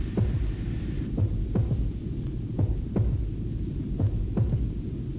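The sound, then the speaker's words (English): A low, throbbing heartbeat pulses steadily in paired thumps, deep, repeating about once a second over a constant muffled hum with no voices. “Let your heart beat for all life.”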